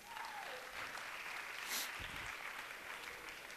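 A crowd applauds steadily, a dense wash of clapping that holds at an even level throughout with a brief swell partway through; no one speaks over it.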